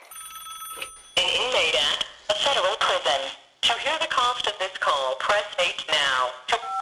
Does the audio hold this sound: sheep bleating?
no